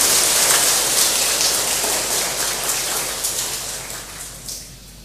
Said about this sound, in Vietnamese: Hãy cho một tràng vỗ tay thật lớn để tán dương.